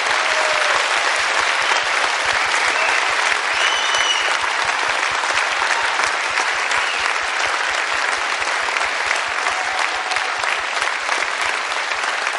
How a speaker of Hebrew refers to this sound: ואני מבקש שנמחא כפיים לכלי העולמי, כי זה מה שיצית את המדינה הזאת מעכשיו.